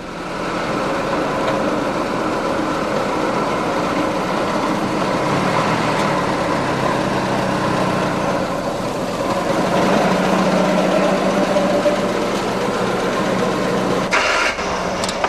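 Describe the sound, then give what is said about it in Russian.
A vintage Russo-Balt car, the make being the first car built in Russia, idles. This one was made specially for filming and is the only working one of its kind. It gives a steady, rough low rumble and mechanical clatter, continuous for the whole stretch, shifting briefly near the end; no one speaks. “Это «Русабалт», первая русская машина, которая была сделана вообще в России.”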